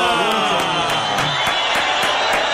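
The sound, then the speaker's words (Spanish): A large audience whistles and shouts continuously at a performer, many shrill whistles overlapping into a loud, hostile din with a steady rhythmic pulse of clapping or stamping underneath. “Van a tener que silbar mucho para pagar 36 años de aplauso.”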